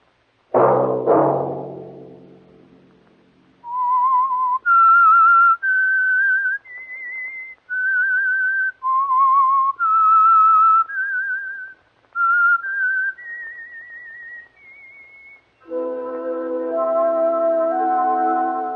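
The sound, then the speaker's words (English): A program's whistled theme tune: two sharp musical stabs open into a lone, clear whistled melody of sustained notes rising and falling, ending as a full orchestral chord swells in beneath it. “That whistle be your signal for the Signal Oil program, The Whistler, each Sunday night at this same time”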